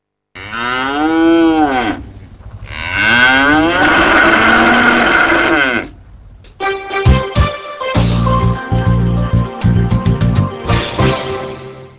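Two long, drawn-out cattle moos, loud, one after the other, followed by several seconds of rattling, humming farm machinery; dairy cattle at the Deblín cooperative, which is still producing and selling milk.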